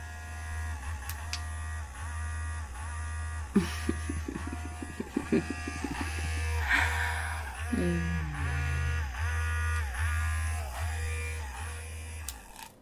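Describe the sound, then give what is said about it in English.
A multi-speed vibrating device, set to an intense speed, buzzes steadily with a low, droning hum, its vibration pattern being changed partway through into rapid pulses and then a pitch that sags downward before the steady buzz resumes. No one talks. “This one's intense. I can also change how it vibrates.”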